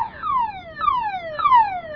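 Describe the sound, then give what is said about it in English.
A car alarm blares, its loud electronic tone sweeping downward again and again in a fast, repeating cycle. No voices are heard. “Turn off that darn alarm!”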